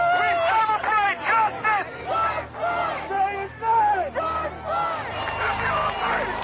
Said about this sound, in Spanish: Encuentran a Chauvin culpable de los tres cargos que pesaban sobre él: asesinato en segundo grado, asesinato en tercer grado y homicidio en tercer grado. Así se celebraba a las puertas de los juzgados de Minneapolis esta sentencia.